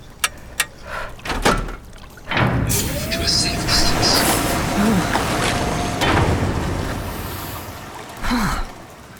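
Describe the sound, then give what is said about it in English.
A few sharp mechanical clicks, then a loud, sustained pneumatic hiss and whir as a heavy suit locker door unlatches after its yellow-framed release handle is pulled downwards and slides open, with a faint rising tone and a final clunk. “Pull the locker release handle, framed in yellow, downwards.”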